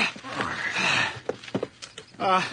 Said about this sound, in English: There, horse is all hooked up. Up you go.